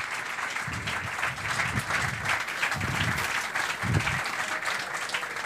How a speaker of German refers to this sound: so lange war unser Applaus nicht.